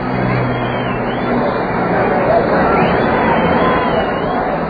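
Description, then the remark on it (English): A dense, steady roar of a huge crowd celebrating in the street in Central London, people dancing on rooftops and climbing sky signs, countless voices blending into a loud continuous wash of cheering and chatter with faint traffic sounds beneath. “And as for the noise of it, well, listen for yourselves to Central London's DJ Roar.”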